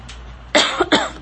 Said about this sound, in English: As I have a coughing fit